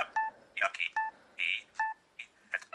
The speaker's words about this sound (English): And you heard a double beep. This double beep means that you're back at the default.